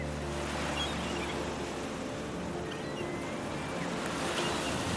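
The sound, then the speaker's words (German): Ocean surf washes in a steady, continuous roar with a low rumble underneath, without clearly separate breakers. No voices. “Ich rieche die salzige Meeresluft, habe den Geschmack von Meeresfrüchten in meinem Mund, spüre den seichten Wind auf meiner Haut, den nassen Sand unter meinen Füßen”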